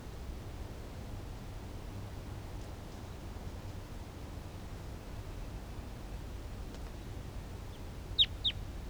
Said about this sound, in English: Wild bird in the distance.